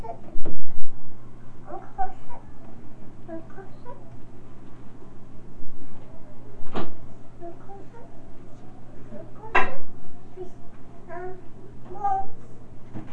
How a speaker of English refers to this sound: Yeah, I don't like you to close that door.